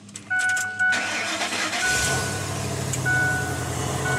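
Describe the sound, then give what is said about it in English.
The engine of an F-150 truck converted to run on hydrogen cranks and catches, then settles into a steady low rumble, with a few short electronic beeps chiming over the start. “All right, I'm just gonna start it.”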